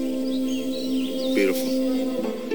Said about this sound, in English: I like to just sit here sometimes quietly. You listen to all the birds.